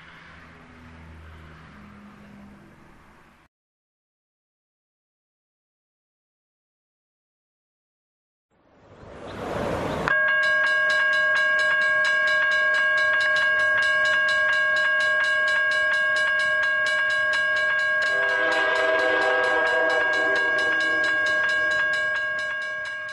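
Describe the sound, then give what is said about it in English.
A train arrives with a loud rush of noise at Larissa Station in the centre of Athens, Greece, then a steady, piercing tonal whine like a horn or brake squeal holds for over ten seconds, swelling briefly near the end. No voices. “Trains come and trains go, but there is no air of bustle about Larissa Station in the centre of Athens.”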